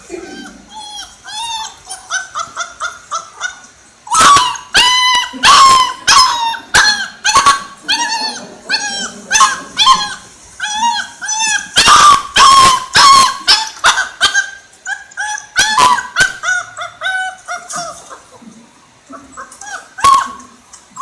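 Two puppies yip, whimper and bark in a nearly continuous, overlapping chorus of high-pitched cries, loud, with sharp bursts of yelping scattered throughout, as they try to figure out how to get down the stairs.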